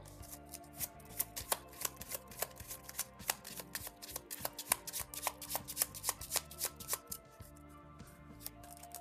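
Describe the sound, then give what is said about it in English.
The villain deck of a card game being shuffled a few times, a steady run of crisp riffling snaps and flutters repeating over several seconds, with a faint low hum of background music underneath and no talking. “Let's shuffle the villain deck a few times here.”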